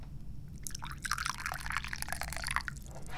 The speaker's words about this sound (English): I have tea. What kind of tea am I pouring?